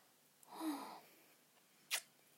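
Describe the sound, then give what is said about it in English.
A breathy sneeze with a rising inhale and burst, followed a second later by a short, sharp sniff or exhale. No talking. “You did so good. Bless you.”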